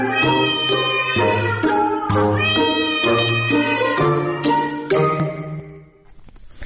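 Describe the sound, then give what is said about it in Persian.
A domestic cat meows repeatedly in a steady series of loud, tonal calls, with no talking, before the sound trails off at the end. “بر همین اساس تا اینجای کار دانشمندان میگویند این میو میوهای معروف گربه ها بیشتر برای ارتباط گربه های اهلی با دوستان دوپایشان استفاده می شود.”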